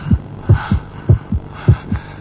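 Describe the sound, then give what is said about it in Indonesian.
A fast heartbeat pounds in deep, low thumps, paired lub-dub beats repeating quickly and steadily with a faint hum underneath and no voices. “Jantungku mulai berdegap kencang.”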